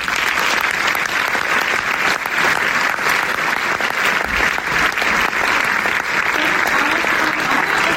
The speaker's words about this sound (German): Einen großen Applaus für Jurymitglied Dr. Alice Brauner.